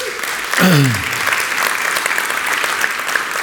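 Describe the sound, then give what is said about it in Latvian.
A church audience applauds steadily throughout its celebration, a dense wash of clapping from many hands, with a brief voice-like sound rising and falling near the start over the crowd. “Es visu laiku domāju, kurš ir tas cilvēks, kurš īstajā brīdī iesāk tos aplausus, ko?”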